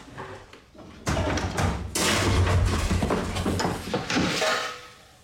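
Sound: banging on pots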